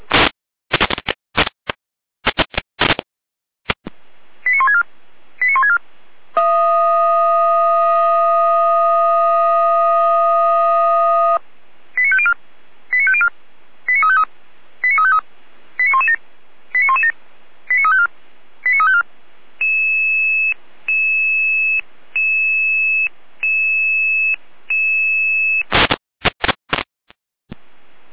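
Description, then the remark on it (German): Fire brigade radio area alert tones calling the Pößneck fire brigade to a hedge fire on Themannstraße in Pößneck: crackly data bursts, a run of short rising tone pulses, a long steady multi-tone chord, then evenly spaced beeps before more static bursts, with no voices. “Hier haben wir Raumruf.”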